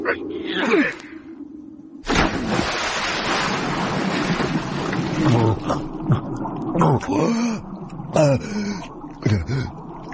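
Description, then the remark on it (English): A heavy splash as a man is thrown into the icy Neva River at night after a brief pause, followed by loud churning, rushing water of a strong current that continues throughout, with strained groans and gasping vocal sounds over it. “Must be the river. The murdering bastards have thrown me in the Neva.”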